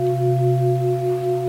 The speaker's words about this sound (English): Listen to the Tibetan bells